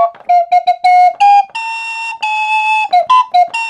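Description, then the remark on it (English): Breathy, pan pipe-like notes from an Andes 25F, a 25-key keyboard flute like a keyed recorder, play a short tune: quick staccato notes, a long held tone, then more rapid notes, loud and clear with no talking. It sounds like a pan pipe in the lower register. “So, but they call it the Andes 25F. That's 25 flutes, because they're 25 keys.”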